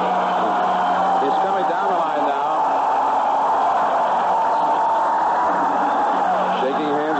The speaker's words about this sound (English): They've been applauding as long as the fans here at Camden Yards. My unofficial time, over 12 minutes.